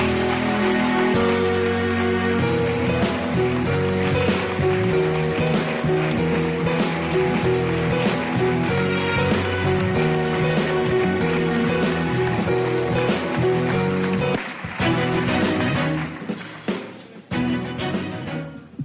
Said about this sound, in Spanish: Un fuerte aplauso.